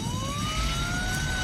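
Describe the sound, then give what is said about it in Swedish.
A fire engine siren in a film wails with a slowly rising pitch, loud, over a dense rumble of traffic or engine noise, as firefighters turn out to a burning building. No one speaks. “Och det är utryckning.”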